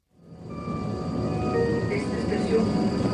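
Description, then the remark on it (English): A train idles at a platform in Kalundborg, a small port town in Denmark, with a deep, steady rumble and a few sustained mechanical tones. The noise swells over the first second and then holds loud, with faint background chatter. “Stepping off the train in Kalundborg, a small port town with 17,000 residents, I'm greeted by a vast industrial site.”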